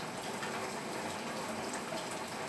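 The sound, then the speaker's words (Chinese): Steady rain falls outside a window, recorded with a Redmi K100 Pro Max phone: a dense, even hiss of water with no pauses or distinct drops standing out, and no one speaking. “您现在听到的窗外的雨声的录音设备来自于 Redmi K100 Pro Max。”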